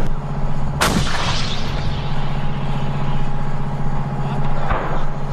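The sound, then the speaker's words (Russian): A 105 mm cannon of an AMX-10 RC armoured vehicle fires at a target during military training, one heavy, sharp blast that rolls off into a long rumbling decay, over a steady droning engine hum; a softer thump follows a few seconds later. “Навчання були у нас з тривайської зброї і 105-мм гармати. Ми стріляли, уражували цілі і отрабатували навички на пулеметах.”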